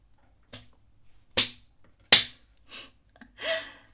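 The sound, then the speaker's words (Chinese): Three sharp, loud slaps of skin on skin as a person forcefully slaps their own face while kneeling, struck at an uneven pace, followed by a few softer rustling and breathy noises. “自己扇自己的耳光，用力的扇”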